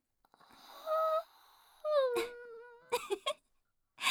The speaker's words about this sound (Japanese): あくびが映った。 もう、やらせるなよ。